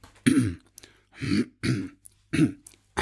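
Four deliberate throat clearings recorded on request, in a row, each a short gravelly burst with brief pauses between, fairly loud, with no talking.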